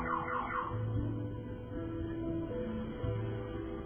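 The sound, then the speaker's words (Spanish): A car alarm blares steadily, cycling through shifting electronic tones with quick warbling sweeps at the start and sustained low honking pitches that step up and down. No voices are heard. “sabemos que a veces cuando meditamos se les ocurre a los perros ladrar, a los coches dispararseles los claxons y etcétera.”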